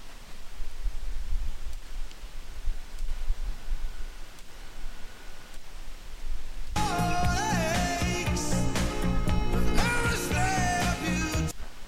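A radio hisses with steady static for several seconds while it is stepped frequency by frequency by clicking the right arrow, then abruptly lands on a station, and a loud, clear broadcast of tonal, music-like sound takes over until the end.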